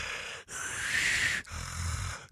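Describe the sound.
A voice imitates the heavy, strained breathing of an unresponsive person lying in bed: two long, raspy breaths with brief pauses between, fairly loud, with a rough, throaty rattle on the second.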